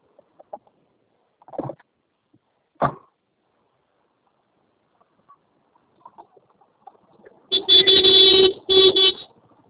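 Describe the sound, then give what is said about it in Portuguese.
A car horn blares in two long, loud honks near the end, following a few brief scattered knocks in an otherwise quiet stretch. “Tá buzinando aí”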